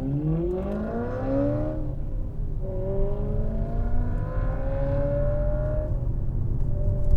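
A sports car with four chrome exhaust pipes revs hard through its exhaust, pitch climbing steeply, dropping, then climbing again in a long sustained pull. Loud and continuous, with no voices.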